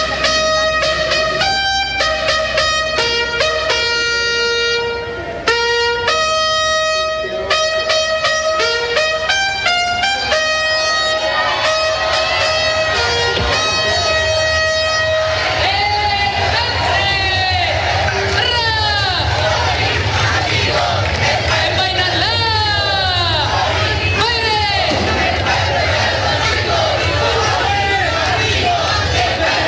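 A large crowd outside La Moneda Palace, in the Plaza de la Constitución, shouts and chants loudly as the now former president Boric leaves the palace, with cries of 'presidente Boric, el pueblo está contigo', sustained horn- or whistle-like tones early on and a denser roar of cheering and clapping in the second half.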